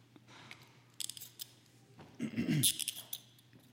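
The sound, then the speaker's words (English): Metal handcuffs are clicked and ratcheted shut on a young male volunteer, a quick burst of sharp clicks followed by a louder, longer run of grinding ratchet clicks, with no talking. “So I have these handcuffs here. He wants to be handcuffed.”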